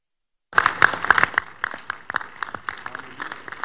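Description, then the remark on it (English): An audience bursts into applause for Jesus in appreciation of testimonies after a moment of silence, many hands clapping in a dense, steady patter that stays strong throughout with no voices standing out. “Please rise up on your feet, put your hands together for Jesus in appreciation of these amazing testimonies.”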